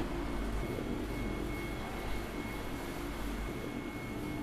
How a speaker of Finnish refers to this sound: Täällä kuuluu tämmöistä hurinaa. Onko täällä kuinka meluisaa silloin, kun työtä tehdään? Ei, alaseri sinänsä ääntelee, että esimerkiksi tämä hurina tulee ilmanvaihtokoneesta, eli se stabiloi ilmaa.